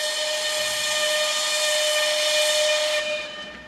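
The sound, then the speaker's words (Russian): A steam whistle blows one long, steady, shrill blast over a rush of hissing steam as a train departs, holding for about three seconds before cutting off and trailing away into fading hiss. “Ну а сейчас провожающих просим выйти из вагонов, и наш радиопоезд отправляется.”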